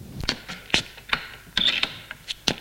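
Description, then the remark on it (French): A woman opens the door to the shop owner's office off a corridor behind a shop: a handful of sharp, irregular mechanical clicks and rattles from the handle and latch, with a brief scraping creak in the middle and no voices. “Elle ouvre une porte.”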